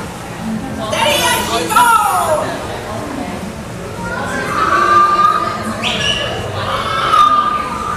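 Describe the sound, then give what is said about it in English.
Parrots squawk and chatter in shrill, sweeping calls at the Pirates of the Caribbean ride, several birds overlapping in bursts over a busy, crowd-like background that never falls silent. “So, without further ado, as I sail around the outside of here and listen to the parrots walk, on with the rest of the show.”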